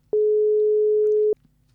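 A single steady telephone ringing tone of an outgoing call to someone on a boat or an island in the Mediterranean, a loud pure mid-pitched beep lasting just over a second before cutting off, with faint background noise and no talk.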